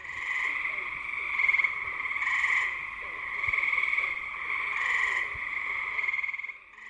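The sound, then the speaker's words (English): A dense chorus of tree frogs, green frogs and bullfrogs calling in a swamp in early summer, with steady overlapping trills and croaks that swell and ebb in waves, filling the background without pause. “And this time of year, we're hearing tree frogs, green frogs, and bullfrogs in chorus.”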